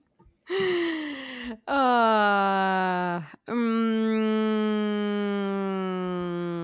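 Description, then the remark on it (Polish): A woman's voice imitates a V6 engine with three long, buzzy, droning tones, each sliding slowly downward in pitch like gear changes, separated by brief breaths. “Udawała dźwięk silnika V6.”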